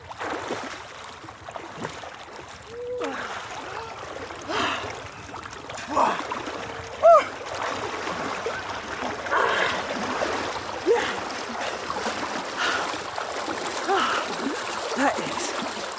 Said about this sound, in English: But I just have to do one more thing because I haven't fulfilled the full task of a river swim, which is you haven't done a proper wild swim unless you put your head under the water.